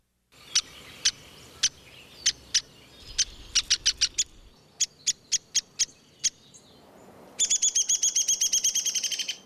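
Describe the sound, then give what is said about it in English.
A downy woodpecker gives sharp, high-pitched single calls at irregular intervals, some in quick bunches, then bursts into a rapid, continuous rattling series near the end, clear, with no talking. “The sounds there of the downy woodpecker”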